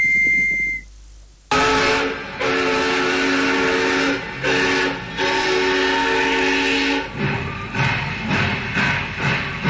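A brief high train whistle, then a loud steam locomotive bursts into motion, its hissing roar breaking into a steady rhythmic chugging as it pulls away from Ferrol, A Coruña, Galicia, on the narrow-gauge line from Ferrol to Gijón.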